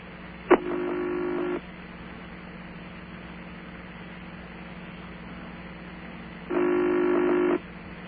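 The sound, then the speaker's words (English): An old-fashioned telephone ringback tone on a call connected to Toccoa, Georgia, sounds twice, each a steady, low, buzzy burst of about a second, separated by a long gap of quiet line hum. No one speaks. “Wow, listen to that ring.”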